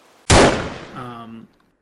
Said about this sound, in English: The gunshot echoes through the empty forest.